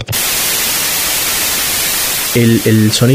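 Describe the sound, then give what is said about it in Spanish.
Loud, steady TV static from a television on a channel with no signal hisses evenly across the whole clip, a dense wash of white noise. Near the end, a person starts speaking over the hiss. “Cuando uno prende la tele en un canal que no tiene señal, lo puede ver el claro, esa interferencia el ruido blanco, el famoso ruido blanco, ¿no?”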